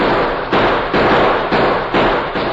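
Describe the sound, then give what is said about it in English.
A shootout around a train, with loud gunshots, about five sharp cracks fired at uneven intervals over a constant wash of harsh, noisy crackle. No voices are heard. “Blast them, boys!”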